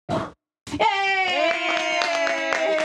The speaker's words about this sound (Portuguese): Acabei de apagar uma vela, pois é isso. Tens de bater palmas sempre que apagas uma vela.